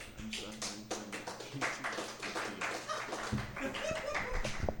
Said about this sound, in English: So I'm going to need the crowd to just please put your hands together for ….